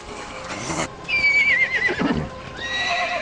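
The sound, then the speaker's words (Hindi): A horse named Duldul whinnies loudly in a long, wavering neigh, followed by softer snorts and another high call, with hooves clopping and a noisy burst in the background. “दुलदुल घोड़ा नहीं है उम्रा, अजदहा है। देखो तो इसे।”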